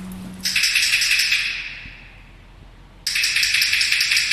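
A metal sliding gate scrapes open with a long, bright hissing grind that fades away, then a faint click, then a second loud grinding slide starts abruptly. No voices.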